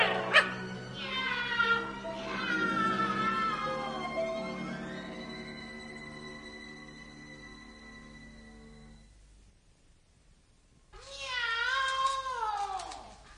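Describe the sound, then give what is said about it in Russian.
Long, drawn-out meows with wavering pitch fill the first nine seconds, followed by a short pause and then another loud, whining meow. The calls are prominent, with no talking. “Воздушные шары поднимают кота вверх! Мяу! Ой, я, кажется, лечу на небо! Мяу!”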